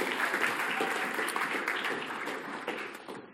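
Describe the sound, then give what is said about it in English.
An audience applauds for people invited up to share their experience, a dense, steady wash of many hands clapping at once that gradually thins and fades over a few seconds. “Yeah, you can clap for them.”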